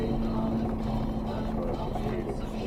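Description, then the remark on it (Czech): A vehicle braking with its engine: a steady, loud low drone with a constant humming tone that runs unbroken through the whole moment, with no voices clearly audible over it. “Víš, to je to, to brzdí motorem.”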